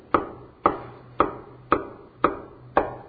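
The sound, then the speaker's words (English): Six steady knocks on a door, evenly paced at about two per second, each a sharp wooden thud that quickly fades. No voices are heard. “I'm standing outside the door of your heart and I'm knocking.”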